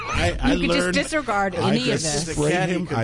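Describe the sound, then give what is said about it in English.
A voice close to the mic imitates the hiss of a can of compressed air, making sharp, breathy spraying noises mixed with voiced sounds for about three seconds. “I'd spray him with the canned and air.”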